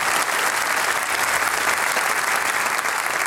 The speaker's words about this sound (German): Dann freuen wir uns auf die …. Begrüßen wir gleich mit einem großen Applaus.